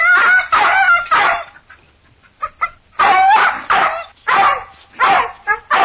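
A dog barks loudly in a run of sharp, repeated barks, pausing briefly for a few quieter yelps before launching into another excited volley.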